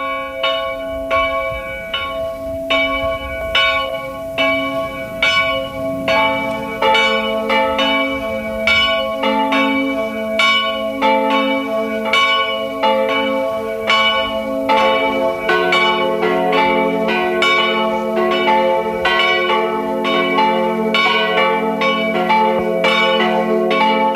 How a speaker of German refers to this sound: Es ist 12 Uhr. Sie hören die Glocken der Pfarrkirche von Winden am Neusiedlersee im Burgenland.